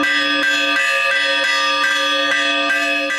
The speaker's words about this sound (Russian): Целыми семьями приходят и приезжают благовещенцы, чтобы порадовать себя неповторимыми изделиями умелец из городского дома ремесел, поучаствовать в играх и конкурсах, а также воспользоваться возможностью огласить округу пасхальным перезвоном.